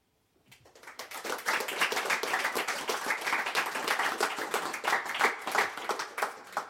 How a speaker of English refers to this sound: It's quite scary to get applause between each poem, but carry on if you want.